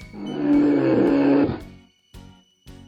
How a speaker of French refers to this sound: Grrr, says the bear. Grrr, grogne l'ours.